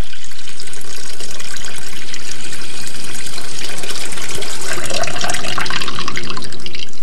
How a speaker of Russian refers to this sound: Около дома стояло 6 больших сосудов для воды, но сейчас они были пусты, и Иисус знал это. «Наполните сосуды водой», — сказал Иисус слугам, и те наполнили их доверху.